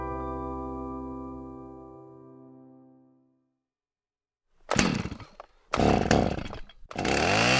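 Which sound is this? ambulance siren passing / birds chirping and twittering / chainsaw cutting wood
chainsaw cutting wood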